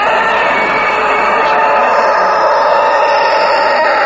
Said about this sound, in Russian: Конечно, когда кричит юрловский, все петухи затихают. Это мощный, сильный петух.